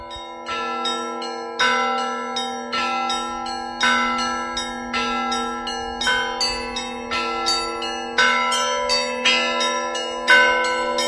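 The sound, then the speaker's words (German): Church bells peal from the bell tower of the Uspensky Church in Russia, rung by a bell ringer in a rapid, overlapping rhythm, with repeated bright strikes ringing over a sustained hum of lingering tones, loud, with no voices. “Unsere russischen Freunde erzählen in einer kleinen Serie aus ihrem Alltag. Teil 2. Kirill, der Glöckner.”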